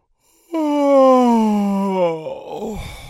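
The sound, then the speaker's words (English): A person imitates a big sleepy yawn: one long, loud, voiced moan sliding slowly down in pitch, trailing off into a breathy, rough exhale at the end. “One of the sloths said with a yawn.”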